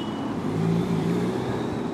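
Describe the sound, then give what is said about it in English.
Steady street traffic on the Champs-Élysées avenue in Paris, with the droning, slightly rising hum of traditional motor scooters zipping past, fairly loud and continuous with no voices. “Feeling morally superior to the traditional smelly and noisy scooters zipping around me.”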